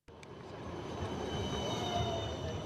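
tram

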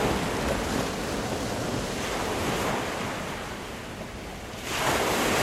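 sea waves and surf

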